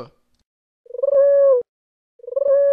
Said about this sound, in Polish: O, chyba myślałem, że to fajne gołębie.